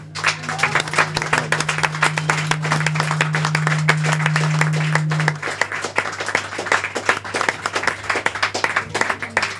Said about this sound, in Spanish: O sea que The Muppets tuvieron su aplauso, pero yo creo que Sonrisas de Bombay necesita y merece un gran aplauso.